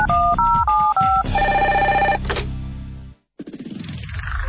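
A radio station's live phone-in line jingle opens with a bright, warbling telephone ring of alternating tones, moves into a sustained electronic chord, then drops to a brief silence before more tonal sound resumes.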